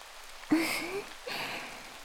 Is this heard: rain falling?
yes